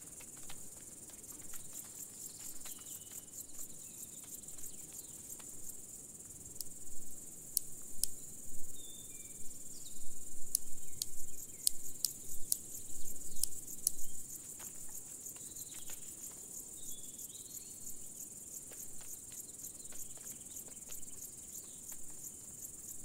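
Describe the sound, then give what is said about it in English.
A pair of large marsh grasshoppers marches across wet ground, stridulating in short bursts of sharp ticking clicks, loudest through the middle, over a steady high insect hum in the background. No one speaks. “The large marsh grasshopper pair marches across the wet ground.”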